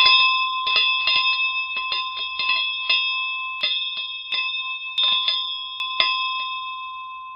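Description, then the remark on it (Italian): A ferry boat bell clangs rapidly and insistently as night falls, calling people back, with a quick, irregular run of bright metallic strikes whose ringing tones hang on between hits. It is loud, with no voices. “Il fragore della campana aveva richiamato per mezz'ora.”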